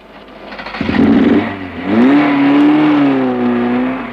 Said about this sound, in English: Even for an experimenter driving a fast car, it's a long ride.